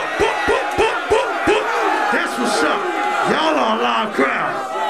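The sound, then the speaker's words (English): A loud concert crowd, urged to give it up for themselves, cheers and yells in a dense, continuous roar, with several evenly spaced heavy thumps in the first second and a half and scattered whoops rising above the din. “Give it up for yourself.”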